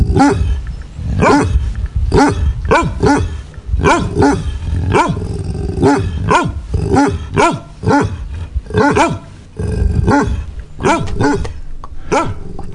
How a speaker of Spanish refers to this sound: Cuando un perro ladra normalmente, sí. ¿qué significa? ¿Que está contento? ¿Que se enfada porque viene una persona que no conoce? ¿O cómo tiene, es? Creo que tiene muchos significados.